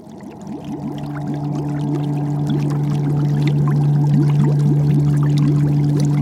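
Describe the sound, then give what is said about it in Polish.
A steady underwater churning of bubbles from a submarine's propeller, with a constant low mechanical hum beneath dense fizzing and gurgling that swells slightly louder over the first couple of seconds. “Gdy śruba pracuje, tworzą się bąbelki, które wydają dźwięk.”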